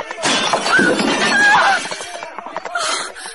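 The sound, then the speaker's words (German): A horse whinnies over a loud burst of crashing and shattering clay pots as a drunken hussar gallops his horse straight into them at a corner of a market, with broken pieces clattering and rattling for a few seconds before a final scatter of fragments. “Als plötzlich ein betrunkener Husar auf seinem Pferd dahergejagt kam und geradewegs in die Töpfe hineinritt, so dass alles in 1000 Scherben zerstach.”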